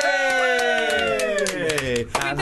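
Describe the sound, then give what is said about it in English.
An audience gives a loud, sustained cheer from a few voices that slides slowly downward in pitch, while sharp, scattered claps punctuate it, over about two seconds. “That's an applause cue!”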